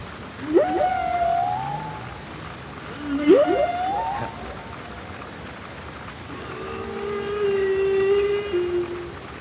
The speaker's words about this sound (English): That's quite a nice one. So that feels more familiar. Is that a humpback? Yeah, that is a humpback whale. Very, very impressed. It's the classic whale song from 90s meditation tapes.